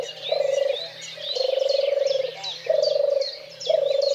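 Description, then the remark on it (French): A European turtle dove purrs in four rhythmic, rolling phrases separated by short pauses, clear, while other birds chirp and twitter faintly in the background. “Dernier exemple visant cette fois l'impact de la chasse sur une espèce en mauvais état au niveau européen, la tourterelle des bois.”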